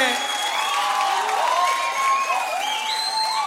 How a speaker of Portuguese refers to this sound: Mais palmas